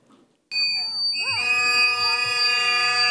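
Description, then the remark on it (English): A shrill, steady whistle blown at a protest outside the Whipple Federal Building in St. Paul, Minnesota, starts abruptly and keeps blasting for several seconds, piercing and high-pitched, while agitated voices shout and talk underneath it. “That's angry daughter right there with the delightful neck tap and the whistle.”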